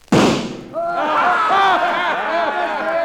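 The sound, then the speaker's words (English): One sharp, loud gunshot, fired at a little gold eagle on a flagpole across the street and missing it, cracks out and fades quickly, then excited voices start talking and calling out over one another. “Think you can hit that little gold eagle on that flagpole across the street?”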